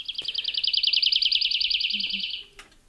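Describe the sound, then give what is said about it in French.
A woodlark sings a fast, liquid trill of rapidly repeated fluting notes, clear, lasting a couple of seconds before stopping abruptly. No one speaks. “Mais si on transcrit ça au piano avec des accords, mais sur des notes fixes, les touches du piano, c'est une gamme fixe, et bien malgré ça, on reconnaît en quelques secondes la louette Lévy”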